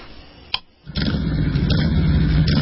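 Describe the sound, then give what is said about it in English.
After a brief quiet moment and a click, a motorcycle engine fires up and keeps revving with a loud, steady, throaty rumble. “Would you mind if I put on some white noise?”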